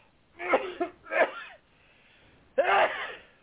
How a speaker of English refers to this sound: God bless you. I took a sneezy sneeze. Yeah, you sure did.